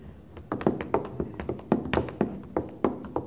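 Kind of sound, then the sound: sound effect, footsteps going down stairs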